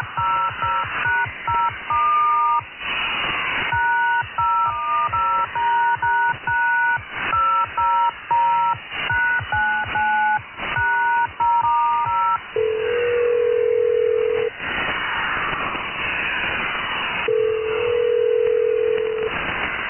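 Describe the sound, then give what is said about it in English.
Telephone beeps heard while a call to the Medicare Magic Hotline is transferred: a rapid string of short two-tone keypad bleeps in quick irregular bursts, then two longer, steady lower-pitched tones, all with thin phone-line quality and no talking. “Please stand by while I transfer your call. You may hear a series of beeps during the process.”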